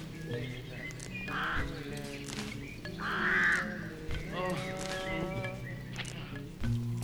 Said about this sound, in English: Of all the call notes used by birds, alarm calls are very important since they give warning of danger.